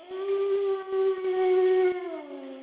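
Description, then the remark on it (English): A voice imitating a wolf howl: one long, steady, wavering note held fairly loud, then sliding lower as it fades out at the end. No talking. “Now, let's learn about your music, …. You mean my howl?”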